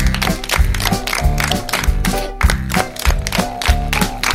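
Steady hand claps, made like a beaver's tail, land on each beat, crisp, mixed into a bouncy children's song about animal noises with a strong bass pulse that continues throughout.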